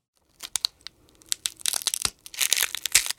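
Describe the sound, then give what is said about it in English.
Crackling dinosaur-egg-hatching sound effect like the Jurassic Park scene, made by breaking an ice cream cone: irregular sharp crinkly snaps and crunches, sparse at first, then denser bursts of bright crackle building toward the end, with no voices. “If I was to guess, to my ears, I would probably say like aluminum foil being hit with like a pin.”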